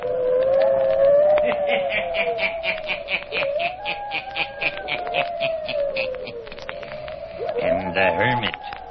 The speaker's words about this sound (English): Listen in again next week for my hounds howling.